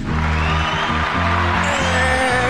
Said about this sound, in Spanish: Gente, no, por favor, no. No lo merecemos, Más aplausos.